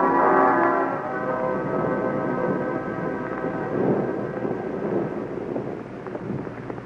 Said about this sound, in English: Listen to that thunder. Still raining.